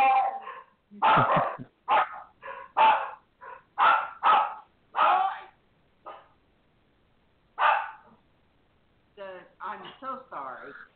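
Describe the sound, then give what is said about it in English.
A dog barks over and over in quick, loud bursts, falls silent for a couple of seconds, then starts again with a run of higher, yelping barks. “Boy, the dog's...”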